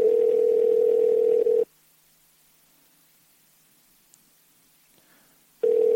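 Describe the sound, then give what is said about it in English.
An outgoing phone call rings: a steady electronic ringback tone sounds for under two seconds, then cuts to about four seconds of near silence before the same loud, single-pitched tone returns. No one speaks. “So let's see if he answers the phone.”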